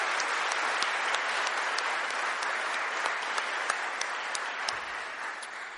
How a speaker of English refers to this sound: So can we have a round of applause, please, for all those involved in the May Day? Thank you. Thank you.